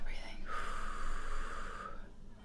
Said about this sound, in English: It's just really overwhelming. My life raft. Okay, we're breathing.